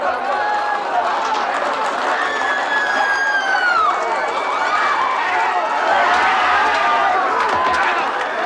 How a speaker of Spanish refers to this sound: Un escuadrón de guardias a caballo aparece por el fondo barriendo a la gente a bastonazos.